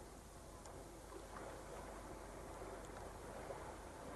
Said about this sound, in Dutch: Dat is de zee die je hoort. Die kan niet zo ver weg zijn, hè.